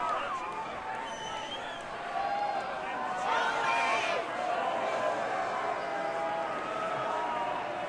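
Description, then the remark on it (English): A live audience boos loudly and steadily for several seconds, a sustained wash of many voices that swells partway through and then holds. “Who are you booing, me or him?”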